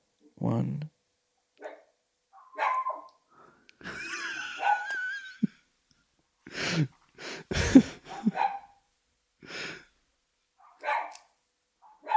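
A dog lets out a series of short, sharp barks spaced irregularly, with a drawn-out, high-pitched whimper in the middle and quiet gaps between outbursts.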